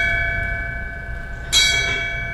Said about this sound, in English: A commemorative bell sound signifying the passing of the chief's badge from Alan LaCroix to Ray Driscoll.